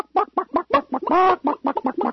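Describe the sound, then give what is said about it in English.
A duck call blown to imitate a chicken: a rapid run of about a dozen loud clucks with one longer drawn-out squawk in the middle, no talking. “It's another duck call I have here. It's not really a chicken sound.”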